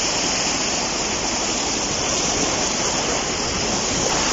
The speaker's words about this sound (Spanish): Escuchen cómo baja el río Saja. Nos lo han pasado algunos vecinos por la localidad de Cabezón, Puente San Miguel también.